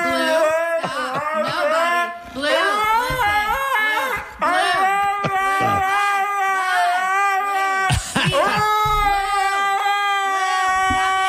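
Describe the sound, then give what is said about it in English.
A dog named Blue whines and carries on almost nonstop while being scolded for making a mess: loud, wavering cries sliding up and down in pitch, broken only by a few short pauses for breath. “Yeah, that dog is going off.”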